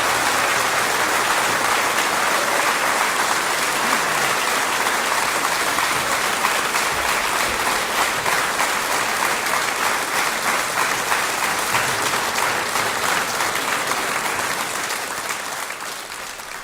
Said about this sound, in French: Bon, je suis obligée de couper les applaudissements. C'était l'enregistrement au Théâtre des Bouffes du Nord en octobre 1997.